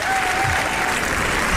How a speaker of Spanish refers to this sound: ¡Bien merecido ese aplauso!